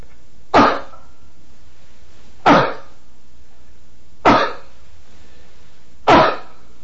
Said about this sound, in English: finally the cough sound